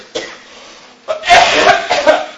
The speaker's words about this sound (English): Excuse me, I'm going into coughing fits just thinking about it. Can you grab me a cup of water?